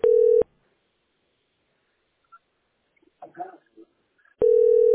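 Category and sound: signal or alarm, telephone call tones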